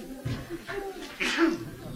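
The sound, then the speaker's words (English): A single sneeze bursts out partway through, short and breathy with a sharp voiced edge, over quiet background noise. “Bless you.”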